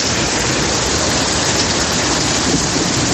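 Torrential rain from a May thunderstorm in Madrid pours down in a dense, steady roar, loud, with a low rumbling undertone throughout and no voices.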